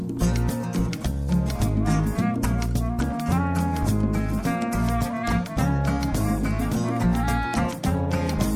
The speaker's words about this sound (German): Und das Lied …, dachte ich mir, höre ich mir dann jetzt einfach mal an.